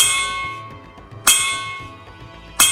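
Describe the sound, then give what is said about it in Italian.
A large gong is struck twice, each hit a bright metallic crash that blooms into a long, shimmering resonance, with the ringing of an earlier strike still fading at the start. “Il sultano, arrabbiatissimo, chiamò un'altra volta i consiglieri, questa volta suonando un grosso gong.”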